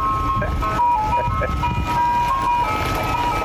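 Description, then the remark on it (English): A unique programmed siren on a Santa Rosa County Sheriff's deputy vehicle, the only one of over 300 vehicles with it, plays a steady, jingle-like run of high, sustained tones, loud and continuous over a low rumbling background with faint murmuring. “We have over 300, and this is the only one with that very unique siren that we programmed into it.”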